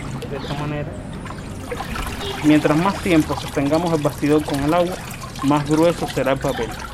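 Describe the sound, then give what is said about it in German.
Water sloshes and trickles steadily as a paper-making frame is dipped into and lifted from a tank of pulp, beneath a person talking throughout. “Je länger wir den Rahmen im Wasser haben, desto dicker wird das Papier.”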